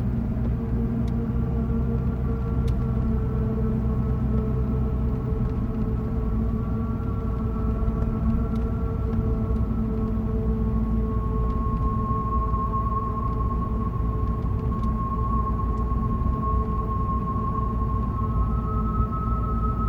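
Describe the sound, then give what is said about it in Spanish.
Steady, eerie whistling tones drift and shift slowly in pitch, like wind whistling between rocks, layered over a constant low rumble from inside a moving car. No one speaks. “Y enseguida piensa en el viento silbando entre la roca.”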